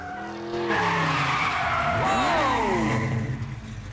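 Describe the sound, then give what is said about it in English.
A car engine roars as tires screech in a long, loud skid, the squeal sweeping up and down in pitch. A red Ford Gran Torino with white stripes flies out of an underground car park, reverses and spins 180 degrees. “Starsky reverses back and spins a 180 right next to Hutch.”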